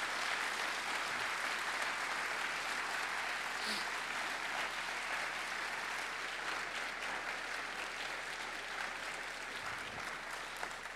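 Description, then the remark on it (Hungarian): Sustained applause from a large audience for everyone who has worked on the show Vétó fills the space, a dense, steady wash of clapping that stays loud and even for the whole stretch without letting up. “mindenkinek, aki valaha dolgozott a Véton, szeretnék kérni egy hatalmas tapsot, mert ez egy kollektív munka eredménye.”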